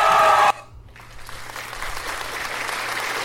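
A loud burst of cheering for a man who has just sung an old Baptist song cuts off abruptly. Then a steady wash of hand clapping from an audience rises and continues, dense and even, with no one talking over it.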